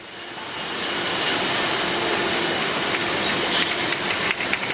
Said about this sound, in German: Das Rauschen und das Scheppern, das ist Glas, das ist neues Glas, das aus altem Glas hergestellt wird. Das Ganze passiert in Ämpres, das ist im Kanton Watt, am Genfersee unten.